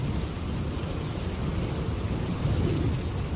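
A stormy downpour from storm Juan in Spain roars steadily, with rain hissing across the whole range and a deep, blustery wind rumble underneath. The sound stays loud and constant throughout, and no voices are heard.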